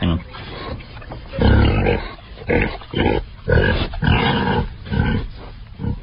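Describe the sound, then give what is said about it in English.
A sound effect of a pig grunting and then walking away: a series of loud, rough snorting bursts in an uneven rhythm that continues to the end, with no one talking over it. “The only one we have is a pig grunting and then walking away.”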